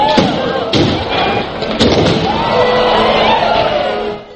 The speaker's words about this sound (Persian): البته میتوان گفت که منظره زیبای انفجار 26 هزار فشفشه بر فراز ساختمان اپرای معروف سیدنی هم به نوعی مست کننده است.